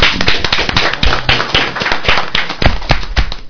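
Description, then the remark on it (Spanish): A crowd applauds steadily, dense overlapping claps forming a loud, continuous wash of sharp transients that keeps an even intensity throughout, with no voices standing out. “Un aplauso para usted.”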